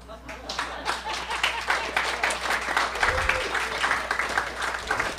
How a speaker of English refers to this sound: Okay, let's see if you're clapping now for my rejections.